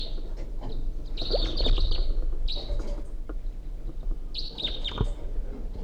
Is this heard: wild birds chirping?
yes